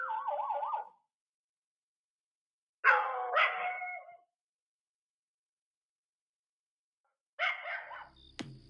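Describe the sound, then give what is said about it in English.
Dogs bark and yelp in three short clustered bursts separated by silence, heard in a played video recorded at 1:30 a.m. A warbling, siren-like tone opens the sequence. No one speaks. “One, get your dogs inside. Two, you're not sleeping the rest of the night. Poor dogs.”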